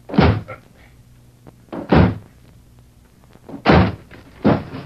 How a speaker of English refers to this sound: All right, then, we'll smash the door.